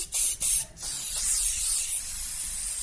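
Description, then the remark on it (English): A can of Jean-Paul Jean's cayenne pepper spray hisses in two quick short bursts, then lets out one long, steady, loud spray that continues to the end, with no voices. “Make sure to use old Jean-Paul Jean's cayenne pepper spray on your next attacker. Spice up his knot by applying directly to his face.”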